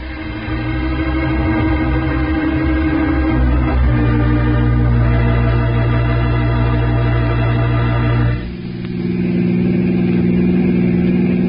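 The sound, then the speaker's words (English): A car engine hums steadily with a low, droning pitch that shifts through gear changes, dipping briefly near the end before settling back into a smooth cruise. No one speaks. “Back to my car.”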